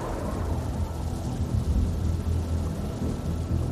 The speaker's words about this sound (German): Es blitzt und donnert und Wellen überrollen das Land.